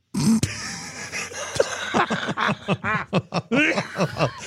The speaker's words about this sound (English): Oh, no. Get a tissue. Get the antivirals. I wish this cough was more productive.